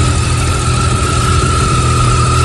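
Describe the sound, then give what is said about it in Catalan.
A Yamaha motorcycle engine runs steadily at a constant idle, a loud, throbbing rumble with a faint whine on top and no change in pitch or speed. “Doncs la marca d'aquesta moto és una Yamaha.”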